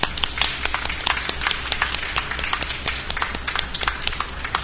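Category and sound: crowd, audience hand clapping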